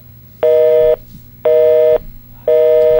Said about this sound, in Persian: چرا این خطا گیره